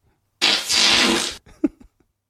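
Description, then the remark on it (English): A loud, raspy fart lasts about a second, harsh, followed by a few short, fainter sputters and then quiet. No one speaks. “I don't think I can hear a fart and not laugh.”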